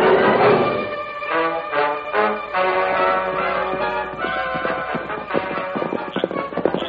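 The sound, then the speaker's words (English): Horse hooves clip-clop in a steady rhythm, fairly loud, with sharp repeated clicks over a rich, busy background of music-like tones and no voices. “That horse answered you. Come on, Silver.”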